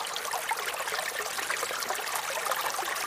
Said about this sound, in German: ein Bach, ein Fluss, gleichmäßiges Plätschern. Ja, gleichmäßiges Plätschern.